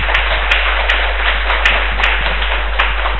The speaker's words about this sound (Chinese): 咁我哋今晚多谢佢。帮我哋讲呢个讲座，我哋俾少少掌声佢。